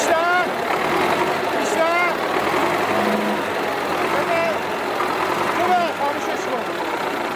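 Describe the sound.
A tractor engine is started and then runs at a steady, rumbling idle throughout, with people talking over the constant drone.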